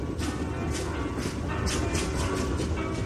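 A train rolls steadily along the rails, a constant low rumble broken by a regular series of clattering clicks from the wheels, loud, with no voices. It is the train to California that Ayn Rand boarded.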